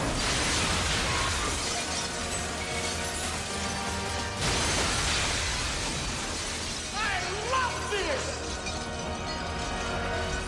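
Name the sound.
windows shattering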